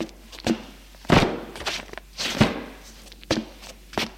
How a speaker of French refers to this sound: Pose les valises dans l'entrée.